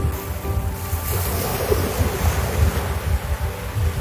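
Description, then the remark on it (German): Steady Indian Ocean surf rolls onto the coast of Zanzibar shortly after 6 a.m. as the sun rises, a continuous broad wash of waves with low rumbling swells and some wind buffeting the microphone, no voices present. “Es ist kurz nach 6 Uhr morgen in der Früh und die Sonne hebt sich langsam über dem Indischen Ozean. Und ich beginne mit meinem Morgenspaziergang an der Küste von Sansibar.”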